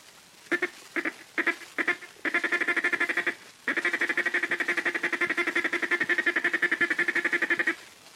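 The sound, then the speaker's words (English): A duck call blown in a rapid feed call chatter: a few short separate notes, then long runs of fast, evenly pulsed quacking ticks, loud, with a brief pause between bursts. “Next is the feed call. Say ticka, ticka, ticka, ticka, ticka, ticka, ticka, ticka. Now with your duck call.”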